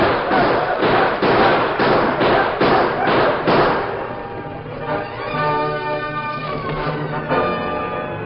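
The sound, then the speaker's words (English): A rapid volley of around eight loud, sharp gunshots from a shootout rings out over about four seconds, then gives way to sustained ringing tones like a musical sting, with no voices. “Only one man of the five who ran that murderous gauntlet of flame and lead escaped with his life, and that man was Billy the Kid.”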